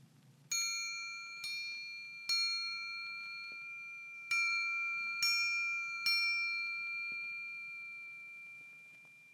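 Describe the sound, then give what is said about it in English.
A metal triangle is struck five times at an uneven pace, each bright, ringing strike sustaining and overlapping the next before slowly fading. No one speaks. “Sound three was a triangle.”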